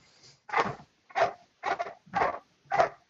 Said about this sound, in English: Somebody have a dog that's going crazy?